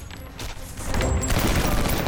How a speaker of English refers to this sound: Uday and Kusey dive to the floor as a hail of gunfire rips through the metal grille covering the window.